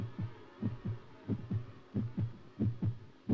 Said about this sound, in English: This is the beat of a human heart. Sit very still and listen. Is your heart beating in this same rhythm? You are experiencing the heartbeat of a dying man